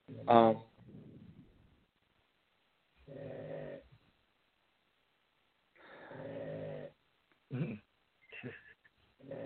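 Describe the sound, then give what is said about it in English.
A puppy gives a sharp, high yelp, then a series of low, snuffly grunts and throaty rumbles, in separate bursts with short silences between them. “Puppy.”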